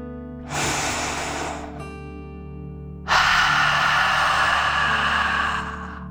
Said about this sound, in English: Now let's take one more deep dragon breath together. Remember to breathe in through your nose, filling up your lungs, and breathe out through your mouth, pretending you are breathing fire. Ready? Take a deep breath in and out.